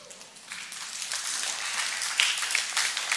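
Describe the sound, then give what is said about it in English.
An audience breaks into applause, a dense wash of many hands clapping that builds over the first second and then holds steady at a moderate level, with no voices. “I'm surprised you're clapping.”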